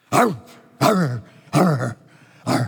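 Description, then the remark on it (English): A person imitates a dog barking with four loud woofs, each a short voiced burst that drops in pitch, spaced at a steady rhythm with brief pauses between. “I laughed because I imagined when I was preparing this that the storm may have barked.”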